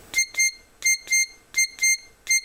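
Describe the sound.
A person imitates a smoke alarm with their mouth, making seven sharp, high-pitched beeps, loosely paired in a quick repeating pattern, loud, with no talking around them.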